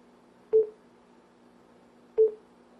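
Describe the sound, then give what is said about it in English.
Two short electronic beeps from an audiobook player, as the fast forward button is held down to jump forward by section, evenly spaced about a second and a half apart, each a clear mid-pitched tone over a low steady hum, with no talking. “Okay, now that it's beeping, it's going by section.”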